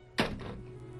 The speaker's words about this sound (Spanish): Y cuelga el teléfono con el alma desgarrada.